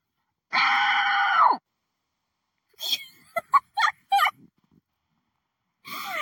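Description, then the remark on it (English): A person in an abandoned house lets out a loud, shrill scream lasting about a second, then a burst of choppy, gobbling shrieks, and another scream begins just as it ends. “There are some very scary people living here, but I was able to convince them to leave when I started screaming.”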